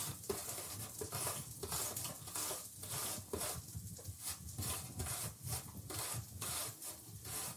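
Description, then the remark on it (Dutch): Rhythmic rasping strokes of an apple being carefully grated in a kitchen, a quick steady series of scraping rubs, with no talking over it. “En nu de appel. Ook raspen, hè.”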